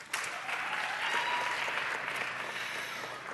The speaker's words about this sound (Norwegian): Kan ikke dere gi en applaus?